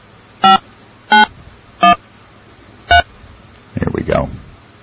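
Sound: telephone keypad dialing tones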